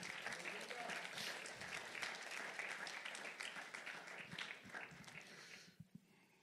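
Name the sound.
audience applause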